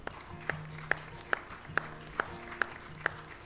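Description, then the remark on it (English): An audience claps together in thanks to the Lord, in a steady, evenly spaced rhythm, about eight sharp beats in three and a half seconds, over a low sustained hum with no voices. “This is like a clapping in a Congress or someone like politics.”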